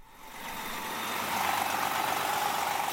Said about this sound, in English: But here in Worcester, where a Greyhound was pulling in from New York City today, the big news is a bus expected from the Big Apple tomorrow.